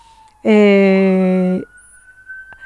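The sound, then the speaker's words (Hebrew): A faint, thin siren wail drifts in the background throughout, slowly rising in pitch. Midway, a loud, steady buzzing tone bursts in for about a second and then stops. “דרך אגב, אפרופו יש ברקע פשוט סירנה”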